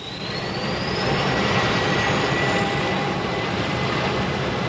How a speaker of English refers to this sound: This is K-Flight 113 Transways, port K2 to ground control. Request permission to start engines. You have permission, Captain.